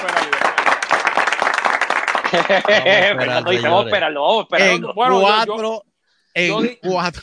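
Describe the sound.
A short burst of clapping from a small audience fills the first couple of seconds, then fades as people start talking over and after it.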